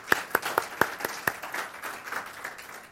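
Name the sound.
audience applauding newlyweds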